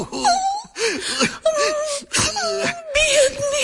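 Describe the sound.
A voice wails and sobs in repeated bursts, about five wavering, moaning cries with short catches of breath between them, fairly loud, sounding like bitter weeping.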